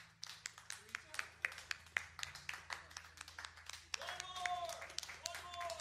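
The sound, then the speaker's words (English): A small group applauds themselves in quick, uneven bursts of sharp hand claps, with voices chattering and laughing underneath, growing a bit louder toward the end. “Just us applauding ourselves.”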